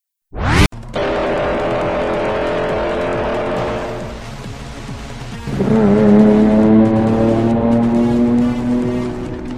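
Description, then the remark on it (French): A car engine revs up sharply and roars steadily, then surges louder midway as tires squeal in a sustained, whining screech, loud with no one speaking. “Hey, regardez cette voiture là-bas, c'est celle du Joker.”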